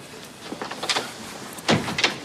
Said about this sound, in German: Da klopft es und Hamid kommt herein.